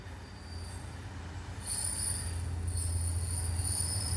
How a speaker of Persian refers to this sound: قطار یهو ترمز بدی کرد و با کلی سر صدا و تکون وایساد.